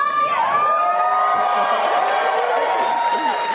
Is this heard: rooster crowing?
no